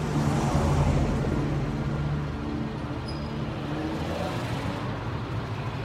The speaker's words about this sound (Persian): مادر آنیکا از یه ساختمون میاد بیرون، میره سمت ماشین، سوار ماشین میشه، با آنیکا و همسری سلام میکنه، ماشین حرکت میکنه.